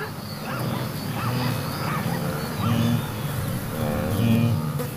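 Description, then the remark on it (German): A herd soundscape of zebras giving sharp, yelping barks now and then over a steady bed of deep, relaxed wildebeest grunts, many animals calling at once with no talking; the wildebeest far outnumber the zebras, about five to one. “Das etwas panisch klingende Bellen zwischendurch, das sind die Zebras, und das tiefere, entspanntere Grunzen, das sind die Gnus.”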